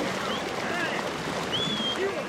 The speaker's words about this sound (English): It's a cold morning on the banks of Los Pinos River on the Colorado-New Mexico border. Only the sound of the river burbles by